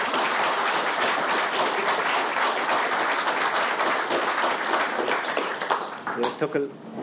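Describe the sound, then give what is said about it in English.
Sustained audience applause, a dense steady wash of many hands clapping for several seconds before thinning out near the end, where a few voices and scattered claps remain. “And I just want to applaud that bravery.”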